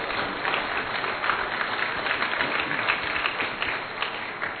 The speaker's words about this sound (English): please give a warm applause again to thank Mark for being with us